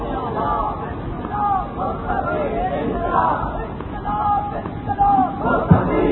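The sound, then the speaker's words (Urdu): A large crowd chants slogans together during a speech, a dense, continuous roar of shouting, steady throughout with brief louder surges near the end, as if many people are calling out in unison. “سنیے بس سنیے بھائی, یہ نعرے اس موقع پر نہ لگائیں کہ اس کا معنی یہ نہ لیا جائے کہ ہم جہاں کے شروع کریں گے میرا ویزا نہ بند کروا دینا.”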